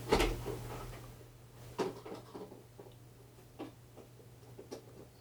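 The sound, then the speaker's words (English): The door of a fridge holding beer, which is not working, is opened and shut a few times, with a sharp clunk at the start and softer knocks and rattles after, over a steady low electrical hum. “Why is it staying open?”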